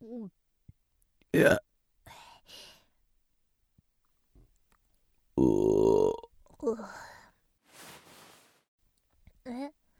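human body sound, burping

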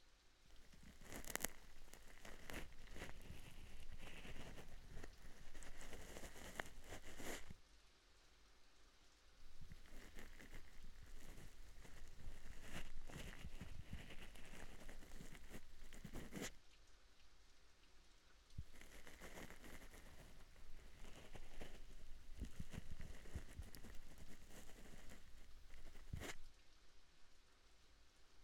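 nature, rain falling

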